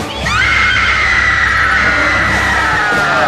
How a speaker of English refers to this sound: Goodheart. Constance Goodheart is screaming her fool head off.